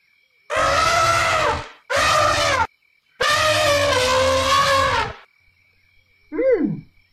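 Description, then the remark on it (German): A lion roars three times, loud, with a long drawn-out final roar, then a short, quieter falling cry after a pause. “Oh, wen höre ich da? Das ist der Löwe.”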